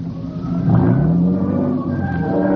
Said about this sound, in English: Let's switch off the light and pull into the side of the road. Riding at the cliff here? Yes, this will do nicely. Cut your engine.